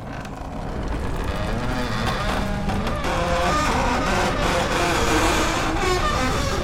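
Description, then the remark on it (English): A huge door groans slowly open, a long, loud, grinding creak with wavering tones over a deep rumble that builds and holds steady for several seconds, with no one talking. “It was the creaking voice of a giant door, slowly yawning wide.”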